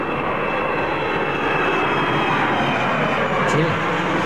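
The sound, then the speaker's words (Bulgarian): An airplane takeoff sound effect roars steadily, a dense, unbroken rumble with a thin high whine running through it, holding loud and even for about four seconds. “Евала за този ефект.”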